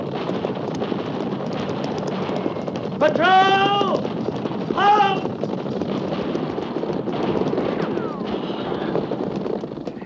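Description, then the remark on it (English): A steady, dense rumble of horses galloping near the Oregon Trail fills the whole stretch, with two brief high, wavering cries rising over the pounding hooves partway through. “At the gallop!”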